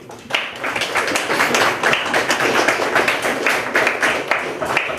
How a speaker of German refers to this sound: Ein Applaus für die Werbung.